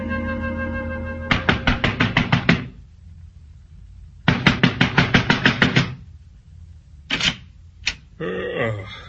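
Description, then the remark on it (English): Two loud bursts of rapid, heavy pounding, about a dozen blows each, of a fist hammering on a door, followed by a couple of single thuds, with a low steady hum underneath. “You banging on the right door, mister?”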